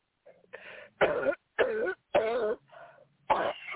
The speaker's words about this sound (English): Keep coughing.